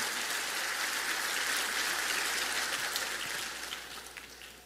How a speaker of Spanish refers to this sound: Vamos a dar un aplauso otra vez al Señor, porque a ti te damos toda la gloria, toda la gloria.